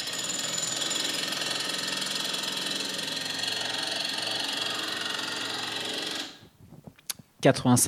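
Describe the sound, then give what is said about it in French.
A jackhammer pounds loudly and steadily for about six seconds, a dense rattling roar, then cuts off abruptly and a person starts speaking. “Et peut-être pourtant que certains d'entre vous se feraient plus facilement passer une heure à côté d'une rivière que d'un marteau-piqueur.”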